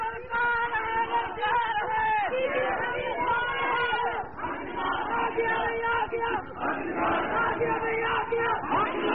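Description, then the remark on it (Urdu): A large crowd at a gathering shouts slogans in unison, a dense wall of many loud voices that surges and briefly dips before swelling again, continuing for several seconds. “نعرے کم بھائی، نعرے کم۔”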